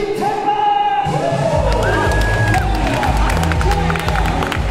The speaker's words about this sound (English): As I walked into the competition area, with the stands full of people and cheering for the competitors like they were gladiators in the arena.